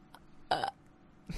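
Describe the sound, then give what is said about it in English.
A single loud, deliberate burp used as a buzz-in sound in a guessing game, short, with a brief rasping tone lasting under a quarter second, surrounded by near silence. “But you may just be burping anytime.”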